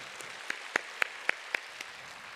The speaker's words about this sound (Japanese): どうぞ拍手でお迎えください。